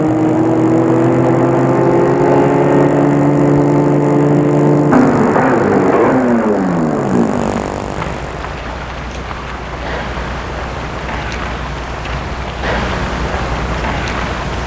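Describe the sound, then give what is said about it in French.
A car engine hums steadily, then its pitch sinks as the car slows and pulls to a stop on boulevard Saint-Germain in Paris, in front of an upscale apartment building, leaving a low idle and outdoor ambience. “arrivé à Paris, il va arrêter la voiture, boulevard Saint-Germain, devant un immeuble cossu.”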